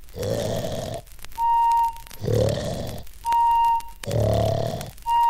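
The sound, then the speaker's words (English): Three loud, rasping snores alternate with a steady, high-pitched whistle after each one, in a slow, even, cartoon-like rhythm of snore-whistle, snore-whistle, with no talking. “I can sleep.”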